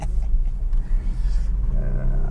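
A car engine rumbles steadily, a loud, deep, continuous low growl with a slight rise in pitch near the end and no one talking; the car is being run after sitting undriven for 20 days.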